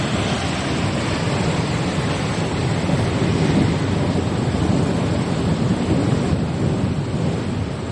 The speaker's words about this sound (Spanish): Pues vamos a empezar por el ruido de toda esta noche en Málaga, donde la DANA ha pegado muy fuerte. Pocos malagueños han podido pegar ojo en una madrugada larga con lluvia y con relámpagos sin parar.